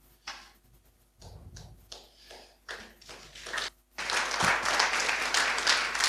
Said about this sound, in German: Ja, einen großen Applaus natürlich.